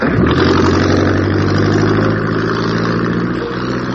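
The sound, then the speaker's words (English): A water taxi launch's motor engine runs at a constant, loud rumble in the early evening, a deep droning hum with a slight rise early on, continuing without pause and with no voices. “Then I took the water taxi.”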